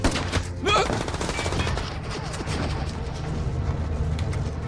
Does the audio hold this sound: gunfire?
yes